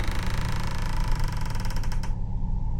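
The handle of a door locked from the inside is shaken desperately with quick, repeated metallic jiggling and a creaking scrape, before the noise cuts off and a low rumble remains as the door finally opens.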